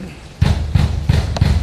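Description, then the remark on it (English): Fists pound on a front door in four heavy, evenly spaced thuds, loud, each blow landing with a deep, booming knock: FBI agents pounding on Roger Stone's door in Fort Lauderdale in the morning. “There's a moment of audio on here that I want to play for everyone, because this is what the first sounds that Roger Stone woke up to this morning was the FBI pounding on his door and shouting this.”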